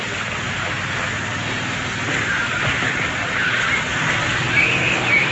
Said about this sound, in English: Anyway, here come the helicopters, and they are now heading for the prison. One of the large army helicopters now going overhead and over the wall into the prison.